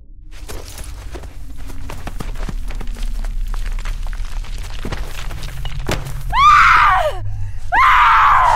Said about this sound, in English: Hearing Christy's screams, Dean instinctively went to ground.